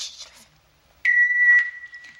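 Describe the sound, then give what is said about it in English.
An answering machine sounds a single steady electronic beep, a clear pure tone holding for about a second after a brief pause, signaling the caller to leave a message. “Sorry, can't come to the phone right now. Please leave your message at the sound of the beep.”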